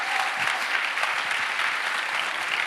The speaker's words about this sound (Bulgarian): О, ако ръкопляскаш, ръкопляски, като че наистина вярваш.